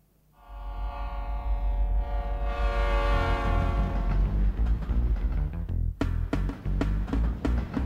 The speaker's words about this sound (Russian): Поезд мчался с грохотом и воем, поезд мчался с лязганьем и свистом, и ему навстречу желтым роем понеслись огни в просторе мглистом.